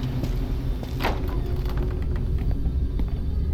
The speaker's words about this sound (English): Keep the car running.